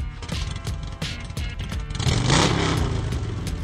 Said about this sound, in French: Un petit peu de gaz. Donne un petit peu de gaz. Moto, ça? Ouais, moto.